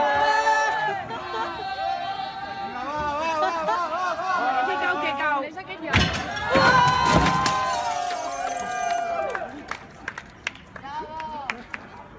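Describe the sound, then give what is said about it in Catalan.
A large crowd shouts and chatters loudly, then a heavy crash rings out midway as an equestrian statue of Franco, placed in front of the Born for an exhibition, is toppled by three young people, followed by rising cheers, whistles and scattered clapping. “Aquest era el moment de la caiguda de la figura.”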